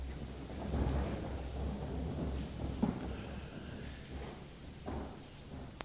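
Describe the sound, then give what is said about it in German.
A broad, rumbling shuffle of many people rising from their seats at once to pray, with scattered creaks, thumps and chair scrapes, no one speaking. “Und ich dachte, bewegt euch zum Gebet. Wir stehen auf, wer kann.”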